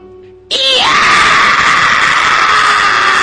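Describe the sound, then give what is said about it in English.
Vegeta suddenly lets out a loud, piercing scream of pain and anger after Pikachu bites his leg. The scream starts abruptly and holds strained and steady for nearly three seconds, with no other talking. “Eeyah! Screamed a very surprised and very angry Vegeta.”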